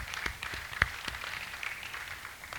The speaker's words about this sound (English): I clap my hand.